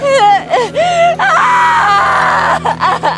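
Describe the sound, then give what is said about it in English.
A woman screams and wails loudly in rising and falling high-pitched cries, with a steady low hum beneath and no talking. “Scratch reached down to take hold of the screaming woman's arms.”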